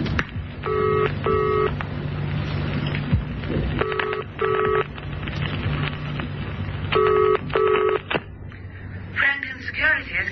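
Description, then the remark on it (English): A police sergeant dials a borrowed telephone, heard as three evenly spaced pairs of short electronic tones over a low background hum, followed by a brief rustling clatter at the end. “Look, may I use your phone again?”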